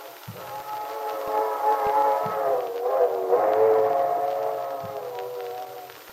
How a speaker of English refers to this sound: There it goes. Yes. You know, listening to that old train whistle gives me the feeling you get sitting inside by a fire in the winter when it's snowing outside. Makes what you have seem all the more precious.